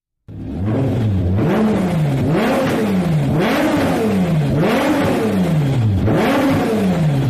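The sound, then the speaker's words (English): A race car engine revs hard over and over, its pitch climbing and dropping in a steady rhythm of about five surges. The sound is loud and continuous, with no talking. “That was the racing car.”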